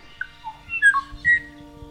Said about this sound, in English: I think one of the most haunting bird calls I've ever heard is this one from the kwa'i o'o. Beautiful flute-like call.